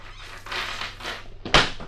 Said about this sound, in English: Well, so, if you're ready to meet Grandpa, let's open up this trap door and drop in.